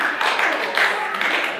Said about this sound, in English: don't applaud for me.